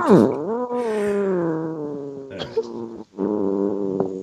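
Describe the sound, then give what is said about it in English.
A person imitates a cat with a long, drawn-out yowling meow whose pitch dips and wavers, breaks off briefly, then resumes with a second strained, nasal yowl, loud and alone. “That's more catish, I guess.”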